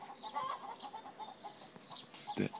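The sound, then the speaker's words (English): Hens that have started laying again cluck in a steady, busy chatter of short repeated calls, with one louder squawk near the end. No one speaks. “The hens started laying again.”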